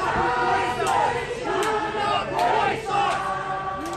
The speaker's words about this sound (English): You can hear chants from alt-right supporters yelling, "You will not replace us."